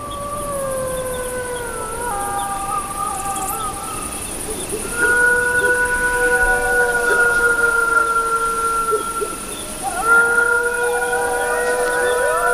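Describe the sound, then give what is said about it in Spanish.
A wolf pack howls together, several long sustained tones overlapping and sliding in pitch, with new voices joining partway through against a steady background hiss. “te lo están diciendo una manada de lobos.”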